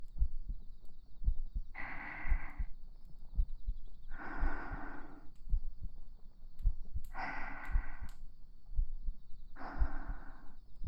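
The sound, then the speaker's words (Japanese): A steady, muffled heartbeat thumps at an even pace, with soft rhythmic breathing swelling in and out every couple of seconds over the beats. No one speaks. “心音は聞く相手の気持ちをとても落ち着かせてくれるというお話です。”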